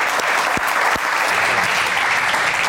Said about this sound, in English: Big round of applause.